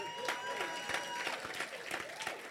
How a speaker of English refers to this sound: Then when you stop clapping, then you are not celebrating your birthday. Everyone who came out of a tree, stop clapping.